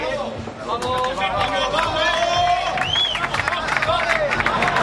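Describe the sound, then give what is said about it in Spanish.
A large stadium crowd roars and cheers continuously as the Real Madrid players, led by captain Karim Benzema, come out, with dense layered shouting, whistles and scattered clapping filling the space at a steady loud level. “Venga, vamos, chíllalos. Esa garganta que se ponga inflamada, la vena, la aorta ahí, que salga.”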